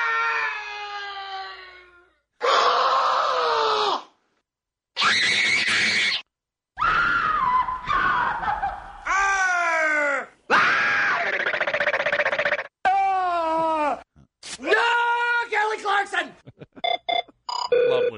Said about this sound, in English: I like noise. Don't you? I do. Is it noise fun? I like the screaming more than anything. Noise is great. How do you not like that?